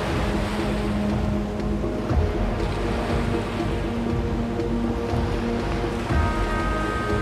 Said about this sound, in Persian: شب و سیاوش در ساحل نشسته و دریا رو نگاه میکنه. دریا خروشان و مواجه.